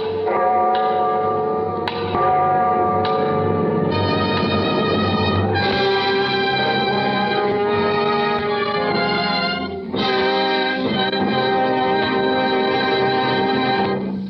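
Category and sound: household object, clock striking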